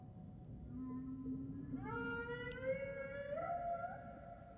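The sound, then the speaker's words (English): A whale call sound effect: a long, eerie moan that slides upward in pitch and wavers, lasting several seconds over a steady low underwater rumble, with no voices. “Each week we tell Henry the Hudson Whale stories of the Hudson River and hear his reaction to the news about the Hudson River”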